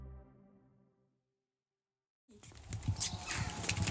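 After a fading tone and a moment of silence, a busy, fairly loud stretch of chickens clucking and scratching in a coop begins, full of short overlapping squawks and rustles.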